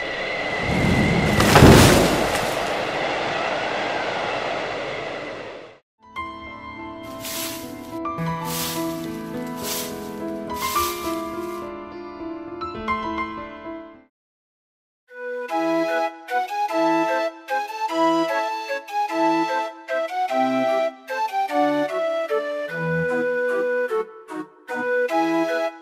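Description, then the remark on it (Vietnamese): A few seconds of storm noise, a steady rushing hiss of wind and rain broken by one loud thunderclap, then the storm gives way to tuneful music with plucked, bell-like notes. “Ôi trời, sấm sét mưa gió thế này, không biết cây xoài của ta có trụ nổi không nữa.”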